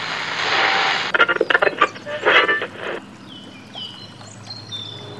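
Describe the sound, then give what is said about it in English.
A boat moves through water in the countryside: a steady rushing wash, then a burst of choppy splashes, settling into quieter lapping with faint birdsong in the background. “Look at that boat! Out of the way! Watch out!”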